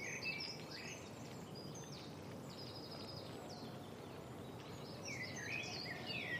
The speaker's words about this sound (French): les merles.